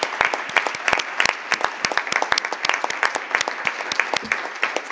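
Steady applause from an audience fills the room, many hands clapping densely and continuously at a moderate, even level for the full few seconds, with no voices standing out.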